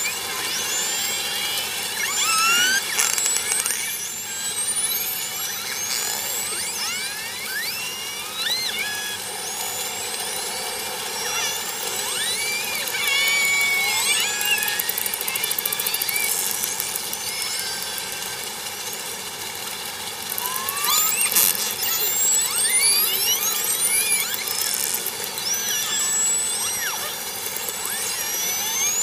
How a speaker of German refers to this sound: Also das war jetzt eine ganz andere Situation. Das waren wieder die Orcas in Norwegen. Aber diesmal hört man dieses Geräusch, diesen Lärm im Hintergrund